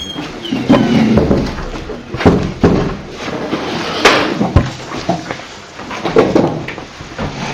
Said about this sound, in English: we can close this door.